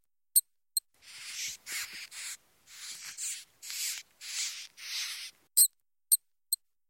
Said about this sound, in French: Mais la souris refuse et continue de crier et de grignoter.